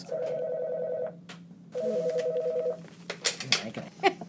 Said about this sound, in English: Okay, so you just unplugged somebody's phone.